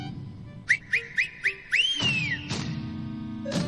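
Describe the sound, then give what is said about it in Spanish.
A series of five short, rising whistle chirps in quick rhythm, followed by a longer sweeping whistle that arcs up and slides down, clear over a low background rumble. “Y sí, allí estaban, en el valle, cientos de llamas arreadas por el dios enano y su inconfundible silbido.”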